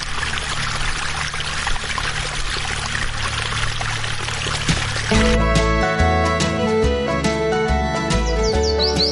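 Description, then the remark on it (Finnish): Flowing water, presented as the Nile flowing in a Moses stage play, babbles and trickles steadily like a summer brook, fairly loud, for about five seconds before music abruptly takes over. “Niin kun laitetaan musiikkia soimaan, mun täytyy ottaa täältä siis, että tämä siis todisteet, että Niili virtaa ja se kuulostaa tällainen kesäinen puro, niin se on, siinä on tosi kaunis ääni, kuunnelkaa.”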